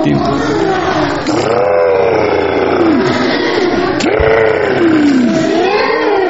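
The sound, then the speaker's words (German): Someone imitates an elephant's trumpet with their voice: loud, sustained, wavering blasts that rise and fall in pitch over several seconds, with a brief break partway through. “Wollt ihr mal so machen wie ein Elefant?”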